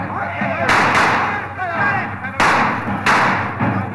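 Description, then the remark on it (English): Four sharp, loud gunshots crack in an irregular pattern, two close together early and two more later, as bandits raid a train stopped by a boulder on the tracks in the desert about 50 miles from Perla. A steady background of rumbling noise and agitated voices. “Hey, save your bullets,”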